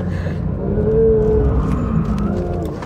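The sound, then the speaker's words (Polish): A Porsche 911 sports car engine roars loudly and steadily while driving on a race track, its deep growl holding a rising tone before easing slightly near the end, with no voices. “ale jednak to jest ta najbardziej ekstremalna i hardkorowa wersja, która sprawia, że daje największy fan z jazdy, jak i ten dźwięk, ten ryk jest po prostu no niesamowity.”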